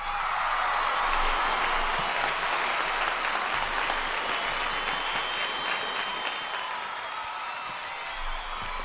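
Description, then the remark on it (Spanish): A standing ovation: dense, steady applause from many hands, sustained at an even, loud level for the full length with no one speaking over it. “Gracias a la generosidad de Rodrigo Bug, de Gerardo Huerta, de Claudia Arruñada y de Connie Álvarez, a quienes les mandamos un abrazo enorme, nuestros mejores deseos para este año nuevo y una ovación de pie.”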